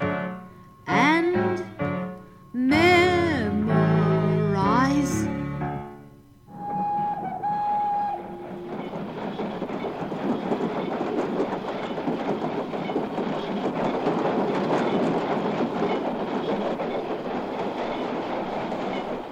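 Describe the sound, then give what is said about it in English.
A few seconds of melodic singing give way to a brief whistle-like tone, then a train rolls in with a steady, loud rumbling clatter of wheels on rails that continues to the end. “And after a while, the train zigzagged on into the village of Liver and Onions, known as the biggest city in the big, big Rutabaga country.”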